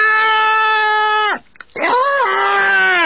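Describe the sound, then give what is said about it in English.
A person lets out two loud, drawn-out screams after a first mouthful of curry-like food that tastes like raw chilies. The first holds steady before sliding down, and after a short gasp-like pause a second wavering cry rises and trails off. “With the first mouthful, I let out a scream.”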